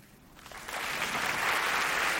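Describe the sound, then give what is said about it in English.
An audience breaks into applause as those who knew their spouse five years or less before marrying clap, the clapping swelling quickly from a faint start into a dense, steady roar of many hands that holds loud to the end. “Clap if you knew your person 5 years or less.”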